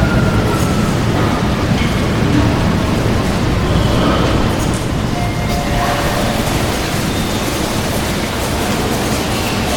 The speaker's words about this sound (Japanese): 一番線に到着の電車は谷町四丁目森の宮永田方面学研なら富ヶ丘行きです。